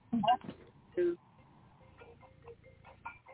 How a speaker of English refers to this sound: Can you put your phone on mute or something, or vibrate rather than let it ring right now?